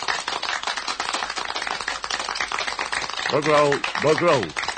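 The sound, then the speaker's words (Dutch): Steady audience applause at the start of the show Los Vast, prompted by a request to clap: a dense patter of many hands clapping at an even level, with a couple of voices calling out or whooping over it toward the end. “Even klappen, mensen.”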